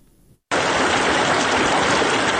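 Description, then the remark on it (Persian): Loud, steady rushing of river water where the Harirud and Jam rivers join, at the centuries-old Minaret of Jam in Shahrak district, Ghor province, central Afghanistan; a dense continuous roar that begins abruptly after a brief faint moment and carries on without pause. No voices. “در محل یک جا شدن دو دریای هریرود و جام، منار چند صد ساله جام در ولسوالی شهرک ولایت غور در مرکز افغانستان همچنان پا برجاست، اما در امان نیست.”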